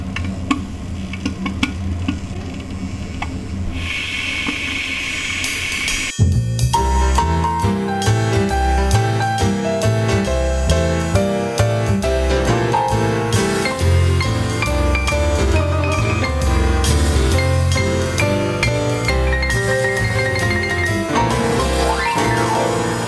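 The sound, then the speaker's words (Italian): An electric kettle heating water before it boils, with a steady rumble full of crackling, ticking and hissing that swells after a few seconds and continues without any talk. “perché quando scaldi l'acqua col bollitore fa più casino prima di bollire? Da dove viene quel rumore lì?”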